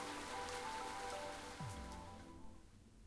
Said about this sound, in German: Der stärker werdende Regen störte mich nicht.